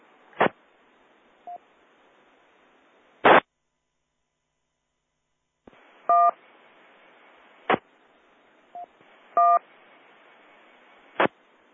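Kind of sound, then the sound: signal or alarm, radio beep tone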